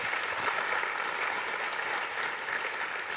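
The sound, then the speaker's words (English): An audience gives a speaker a round of applause after he shares his story: a dense patter of many hands clapping at an even, sustained loudness throughout, with no voices rising above it. “Give Chris a round of applause.”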